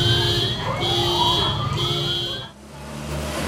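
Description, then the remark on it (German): An earthquake warning siren in Mexico blares in steady, pulsing bursts of high tones, with a rising sweep beneath and low traffic-like rumble, then briefly cuts out before resuming. “Und bis heute sorgt die Warnsirene bei vielen für Panik.”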